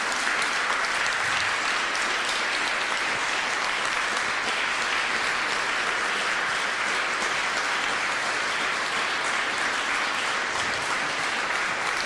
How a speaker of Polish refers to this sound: Wielkie brawa dla naszego artysty.